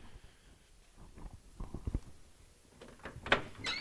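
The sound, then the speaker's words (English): A garage door opening, with a quiet run of irregular rumbling thumps and clatters building to a sharper metallic rattle near the end; no one speaks. “Ladies and gentlemen, the garage door is now allowed to be open.”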